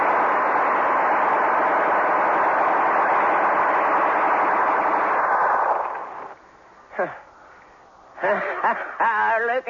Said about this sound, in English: Gatling guns can wipe out an army.